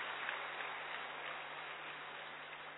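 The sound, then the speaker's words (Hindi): A large audience claps continuously, a dense, steady wash of applause that holds an even loudness for the whole stretch, with no voices rising above it. “भ्राता जी ने मालूम पड़ा कितनी तालियां बजवाई हैं।”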